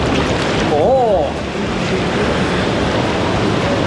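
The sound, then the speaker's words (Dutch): Steady, loud rushing and bubbling of churning water in a warm whirlpool bath fills the whole stretch, with a brief wavering voice-like tone rising and falling near the start. “Het bubbelend bad. Ga even lekker bubbelen.”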